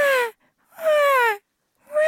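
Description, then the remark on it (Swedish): A voice imitates a newborn's thin, wavering cry in three short bursts separated by brief pauses, each wail high-pitched and falling slightly at the end. “Men tänk mig så små, när de skriker så låter det bara så här.”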